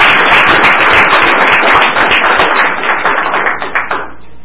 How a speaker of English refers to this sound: Please give all of the youth a hand clap of praise.